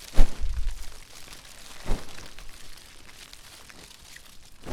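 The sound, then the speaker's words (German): A dish towel is swung slowly through the air, making a few breathy whooshing gusts, one strong at the start, then softer ones spaced apart, imitating the roar of a blazing flame. “Noch besser wird es, wenn du außerdem mit einem Küchentuch, mit einem Geschirrtuch wedelst. Nicht zu schnell, sondern langsam und kräftig und nur ab und zu.”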